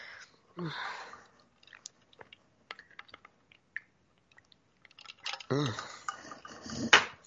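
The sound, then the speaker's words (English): Quiet sounds of someone taking a big drink from a glass: a few light clinks and handling noises, then louder gulping and swallowing toward the end, ending with a sharp clink. “I needed a big drink that time.”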